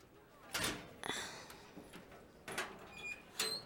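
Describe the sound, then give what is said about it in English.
A key turns and rattles in an old, tricky door lock with several metallic clicks and scrapes while pressure is put on the door, followed by the creaky door being pushed open, all fairly quiet with no talking. “If entering your combination doesn't work, you just have to put pressure on the door as you turn the key.”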